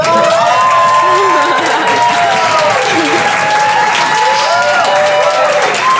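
A crowd applauds and cheers loudly and steadily for the full length, with dense clapping and whoops and shouts rising above it.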